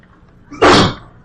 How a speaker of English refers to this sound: Bless you.